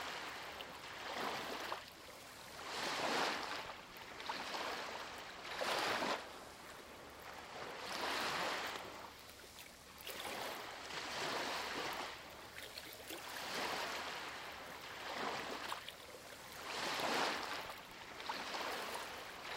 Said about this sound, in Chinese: 现在，温柔地将注意力带到海浪上来，观察它看起来是什么样的，你听到了怎样的声音？